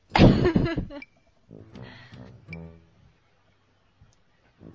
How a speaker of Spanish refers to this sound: Ay, iba a toser y me reí y se me atoró.